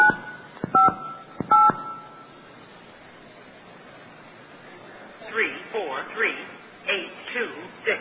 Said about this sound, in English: This dial tone, great. This is an ISDN line, by the way. We're going to dial 958 and hear what number we have.